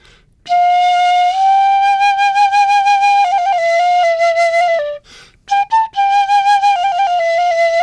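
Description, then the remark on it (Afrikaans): A small plastic children's training flute plays a simple melody of sustained, breathy notes with slight vibrato, fairly loud, pausing briefly before resuming with a few quick notes. “dan het ek nou hierdie klein plastiek fluitjie wat R100 is, maar wat 'n pragtige klank. Hy is eintlik 'n opleidingsfluit vir kindertjies.”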